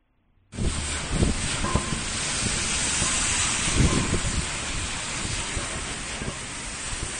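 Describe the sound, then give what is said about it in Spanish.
Floodwater surges up through sewer manhole covers in the Pocomaco industrial estate during a heavy afternoon downpour, the covers opening and closing as the drains overflow: a loud, steady roar of rushing water and heavy rain, broken by a few dull low thumps, with no voices. “Sí, las tapas de registro abrían y cerraban al no dar abasto para evacuar el agua que llegó a caer con mucha fuerza la tarde de ayer.”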